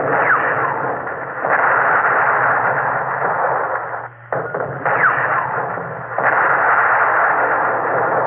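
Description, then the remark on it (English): A loud, sustained barrage of naval cannon fire from warships firing on a Russian column, booms blurring into a continuous roar with a brief lull midway before the pounding resumes. No voices are heard. “This will bring the fire of all our ships to bear on the Suvorov.”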